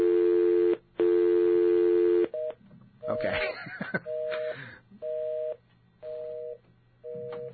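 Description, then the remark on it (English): A loud, steady telephone dial tone breaks into a crackling burst of static caused by the equipment, followed by a string of short, evenly spaced electronic beeps, with a brief spoken word. “That's the dial tone, and that's that horrible bit of static that we have to get rid of.”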